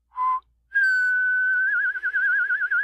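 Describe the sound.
Someone whistles a brief low note, pauses, then holds a long, steady higher note that breaks into a wavering trill toward the end, loud with no talking.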